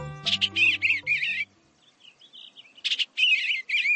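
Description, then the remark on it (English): An eastern bluebird sings a mellow, burbling warble from the edge of a meadow in spring, in two bursts of rich, rolling phrases separated by a quiet pause, clear with a soft low hum beneath the first phrase. “A mellow, burbled refrain from the edge of a meadow.”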